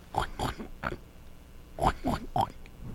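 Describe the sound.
A voice imitates a pig oinking with short, snorty grunts, three quick ones, a pause, then three more, moderately loud.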